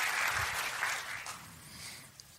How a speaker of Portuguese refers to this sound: Pode aplaudir o Senhor.